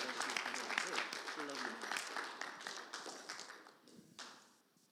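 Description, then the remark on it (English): An audience stands and gives a sustained round of applause to honor a man, dense overlapping clapping with a few voices mixed in, holding steady before thinning out and fading near the end. “But I tell you, I want you to stand and give a round of applause to this man and acknowledge what God's call in his life has brought us to.”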